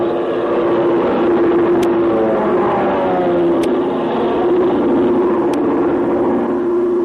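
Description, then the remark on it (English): A Chinese army airplane engine drones steadily and loudly throughout as the plane looks for a place to land, a continuous low rumbling hum with a faint wavering pitch and a few tiny ticks, with no voices. “Can't make out what kind of a plane it's it is. It's an army plane.”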